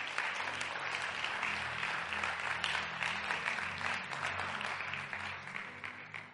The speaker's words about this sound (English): Take your seat. Clap for Jesus, if you can.